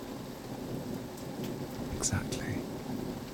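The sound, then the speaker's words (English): Steady rain hisses over a low, rumbling thunderstorm, with a few brief brighter spatters and cracks near the middle; the rumble stays broad and continuous rather than building to a sharp clap. “I'm going to keep you safe, and we're going to cuddle throughout this storm.”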